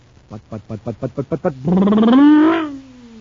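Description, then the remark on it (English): Captain Dick Tufeld imitates the engine of a cosmic surface car supercharged with super fuel: about eight quick, sputtering revs, then a loud, sustained roar that rises and falls before cutting off. “That cosmic surface car is really roaring now because it's supercharged with super fuel.”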